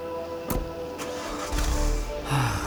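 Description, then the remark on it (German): A couple of sharp clunks like a car door closing as a man goes to his car, then the engine cranks and catches, settling into a low, steady rumble. No voices. “Er geht zu seinem Auto.”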